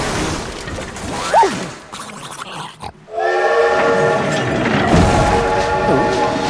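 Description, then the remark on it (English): After a few grunting, sliding vocal sounds, a train rumbles steadily along the tracks with a loud, sustained multi-tone whistle over the continuous rolling noise, as it rolls on through a snowy landscape without Pluto after dumping him from its car. “As the train rolls on without him, Pluto spots figures flying overhead.”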